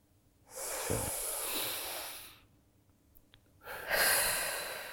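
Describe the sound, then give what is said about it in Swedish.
A long, deep breath drawn in through the nose, a short pause, then a slow breathy exhale, with no talking. “Ni som lyssnar på oss och ni som tittar på oss, vi ska nu tillsammans bara ta ett djupt andetag.”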